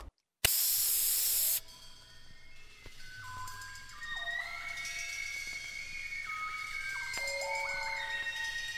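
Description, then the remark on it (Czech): A single loud, steady hiss of aerosol hairspray lasting about a second, cutting off abruptly, followed by a light electronic melody playing in the background. “Frizure su ili jednostavne kao Twiggy, ili su sve veće i koristi se puno spreja za kosu.”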